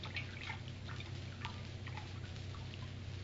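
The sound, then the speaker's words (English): Water drips and trickles softly as a cloth is used to bathe an injured man's temples, small irregular drops pattering at an uneven pace over a steady low hum, with no voices. “Here, Captain, is the water and the bandage. I'll bathe his temples.”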